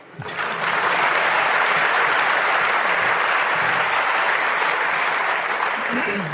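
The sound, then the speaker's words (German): Sustained audience applause, a dense steady clatter of many hands clapping that starts abruptly and stays loud and even for several seconds without easing off. “Applaus!”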